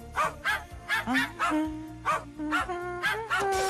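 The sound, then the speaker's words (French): A dog barks in a steady, rapid series of about a dozen sharp, gruff barks, loud, roughly two per second, over a low continuous background hum. “Il y en a un qui grogne.”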